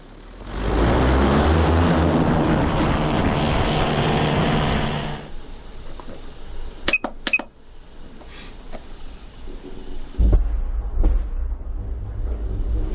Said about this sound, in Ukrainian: Да, дрон полетів.